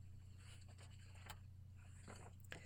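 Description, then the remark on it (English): Quiet paper handling: a few brief crinkles and scratchy rustles spaced out over a steady low electrical hum, with no one speaking. “I will get the paper.”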